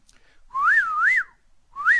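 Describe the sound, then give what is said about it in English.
A person whistles an imitation of a southern whippoorwill call: a clear, mid-pitched phrase of two swooping rise-and-fall notes, a brief pause, then the phrase begins again. No talking. “Mostly what we hear is the southern whippoorwill, which I think has a far more interesting sound.”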